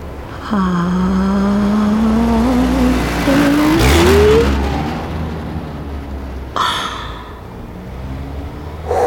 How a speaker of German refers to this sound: Der Wagen fährt los, kommt auch auf mich zu, aber der andere stapft schon den Hang hinauf, genau in meine Richtung.